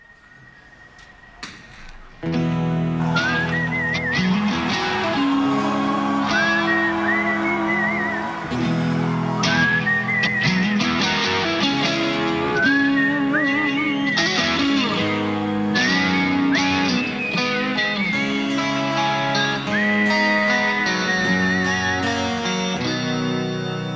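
A whistled melody glides over a slow, full rock band playing live, starting after a brief quiet moment and carrying on steadily, loud and close, with sustained guitars and drums underneath.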